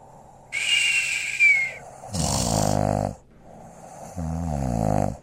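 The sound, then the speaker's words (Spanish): A dragon snores after falling asleep, loud and exaggerated with no talking: a high whistling breath followed by two deep, rattling snores, each lasting about a second with short pauses between. “Más tarde, se fueron a acostar, y muy pronto El dragón se durmió con sus ronquidos horribles.”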